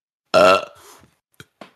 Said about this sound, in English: We do dubstep burps on this show. Wow. What? It tastes like Wendy's.